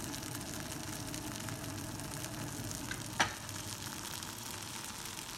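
Meatballs sizzle steadily in a hot pan, a dense, even crackle of frying that never lets up, broken once by a single short clink partway through. No one speaks.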